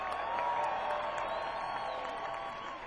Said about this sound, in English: applause for McDuck on that trumpet, y'all.